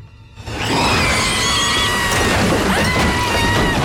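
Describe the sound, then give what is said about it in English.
A fist punches out the slatted wooden doors of a wardrobe to free a woman inside, a sudden loud splintering crash that stays dense and harsh for several seconds, with thin high ringing tones running over it. “Rudy punches out the slatted doors of the wardrobe to free her.”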